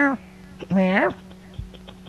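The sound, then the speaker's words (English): A cat lets out one drawn-out, rising-then-falling meow, fairly loud, after a brief clipped cry at the start, over a steady low background hum. “Get out of here, damn cat.”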